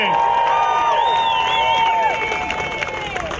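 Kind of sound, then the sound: crowd, audience applause and cheering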